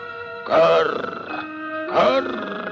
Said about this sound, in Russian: Это ворон мудрёно на ветке сидючи раскряхтелся, что дед досужий.